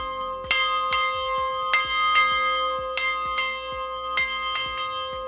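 church bells ringing

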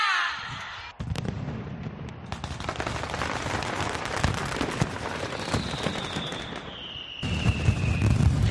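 mascletà firecracker barrage

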